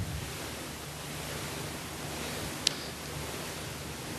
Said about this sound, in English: That's a pink noise sound that's sweeping across from the left to the right and back again.